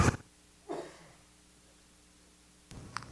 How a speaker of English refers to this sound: Thank you for, but that was a cough. That's an asthma cough. That's not a sneeze.